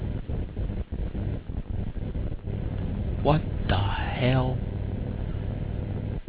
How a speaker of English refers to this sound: Ice cream truck going by playing this old man.